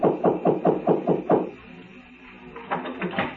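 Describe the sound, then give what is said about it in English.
A quick, even run of about six sharp, loud knocks on a door, then a brief lull before a few softer taps follow. “The door opened before I could get to it.”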